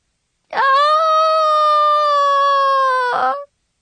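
A single loud scream into a pillow, held for about three seconds at a steady, high, strained pitch before cutting off abruptly, with no other sounds around it.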